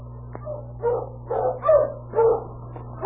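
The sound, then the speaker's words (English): A dog team of sled dogs barks and yips in a string of quick, overlapping bursts, loud, over a steady low mechanical hum, as the team is driven at a fast pace along the road out of Dawson City. “Sergeant Preston, Northwest Mounted Police, had left Dawson City and was driving his dog team at a fast pace on the road for 40 miles.”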